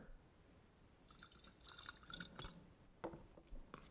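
Water pours and splashes into a container, filled up full, a steady trickle broken by several sharp drips and splashes toward the end, with no voices.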